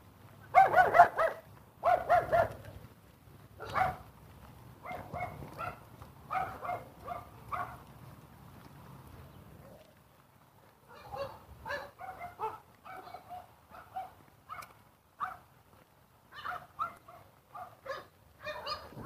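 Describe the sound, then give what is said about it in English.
Dogs bark in short repeated bursts, several yaps close together, pausing briefly midway before a second stretch of quicker, slightly softer barking. A low background rumble sits under the first half. “Yep, dogs.”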